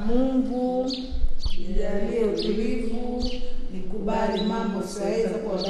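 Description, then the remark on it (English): Scattered high chirps from songbirds in the morning at Malaika House, a women's recovery house, flicker above a steady bed of voices, brief bright calls repeating every second or so, partly masked by the murmuring talk. “It's called Malaika House, where each morning begins with the chirp of songbirds and the serenity prayer said in Swahili.”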